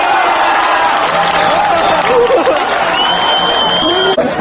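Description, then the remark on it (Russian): A football stadium crowd roars steadily and loudly at the kickoff of a match against Olimpia, in which a Novocherkassk player, Mikhail Osinov, scored from the centre circle in under 3 seconds; a dense wash of voices with a few sustained whistle-like tones rising above it, no single speaker standing out. “Послушаем аудиозапись начала матча.”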